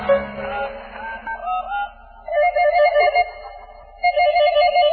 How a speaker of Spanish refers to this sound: Si al menos pudiera alcanzar el teléfono. Un poco más. ¡Eso es! ¡Ya está! Ahora, discaré con la nariz.